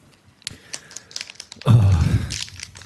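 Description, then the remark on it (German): Crisp crinkling of a still-sealed plastic bag of baked Wotsits snacks being handled and torn open, starting with scattered small crackles and swelling into a loud, sustained rustle. “Diese Tüte ist hier sogar noch zu.”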